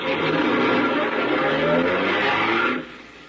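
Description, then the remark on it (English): A car engine roars steadily with a rough, broad rumble, as if driving under load, then drops away abruptly near the end. No one speaks. “Move over, will you? No. I said move over. I'm driving this buggy.”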